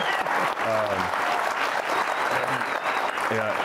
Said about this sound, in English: But, yeah, clap that one up.